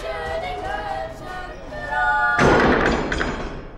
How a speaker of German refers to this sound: fährt eine Säule aus dem hinteren Bühnenraum nach vorn und Tim knallt voll dagegen